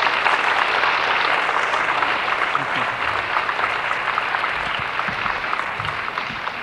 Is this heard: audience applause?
yes